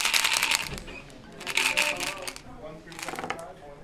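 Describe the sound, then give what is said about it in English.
Three quick bursts of crisp riffling, like playing cards being shuffled, with a soft murmur of voices underneath, during a Little Reno Day of poker, blackjack, dice and keno at the Circle of Friends program in the town of Burney, California. “We're all just playing poker and blackjack and dice and keno, and it's kind of fun.”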